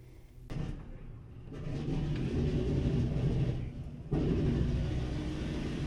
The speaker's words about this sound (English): I'm seated at the radio operator's station. It's in a surprisingly small room just behind the bomb bays. And as you can hear, the engines are started. We'll be taking off shortly.